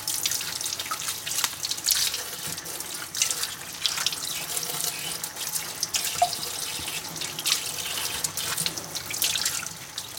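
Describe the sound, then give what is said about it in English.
A kitchen tap runs steadily into a sink for the whole stretch, a broad hiss with splashing and irregular spatters as leeks cut lengthwise are washed under the stream, the water getting between their layers. Fairly loud, with no talking. “And now I'm gonna cut my leeks lengthwise and give them a wash.”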